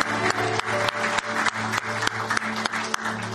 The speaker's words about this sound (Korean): 예수 그리스도께 영광과 감사와 소망의 박수 한번 올려드리겠습니다. 할렐루야.